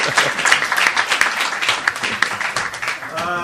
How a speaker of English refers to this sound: So please, one big applause for my helper. Thank you. Bravo. Well done.